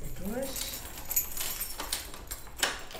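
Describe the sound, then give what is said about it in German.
Keys jingle and rattle as the door to a school corridor at a primary school in Hanau, Germany, is unlocked, with bright metallic clinks scattered over about three seconds and a short voiced sound at the start, moderately loud. “schließt die Tür zu einem Schulflur auf, der in einen großen Gemeinschaftsraum mündet, dem sogenannten Aktionszentrum.”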